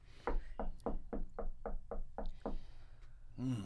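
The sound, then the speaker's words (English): A quick series of about eight firm knocks on a house door, evenly spaced, followed by a brief moment of a voice at the very end. “Open the door.”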